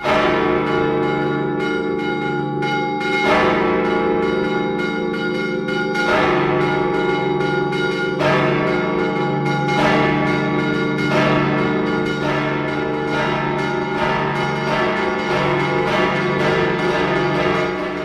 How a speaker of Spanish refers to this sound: Pues vamos, si te parece, vamos a escuchar ese paisaje sonoro valenciano a través del sonido del repique de las campanas de la catedral.